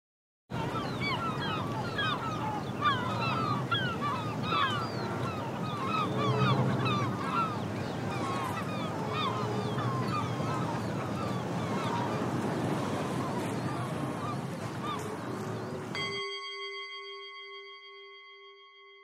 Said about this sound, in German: Möwen am Hafen.